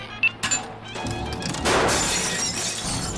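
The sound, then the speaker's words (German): A SodaStream glass carafe shatters with a loud crash at about a second and a half, followed by a bright, hissing spray of tinkling shards that lingers. A couple of small knocks come first. “Soda Stream Glaskaraffe.”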